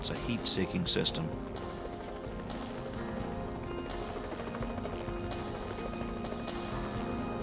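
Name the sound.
helicopter rotor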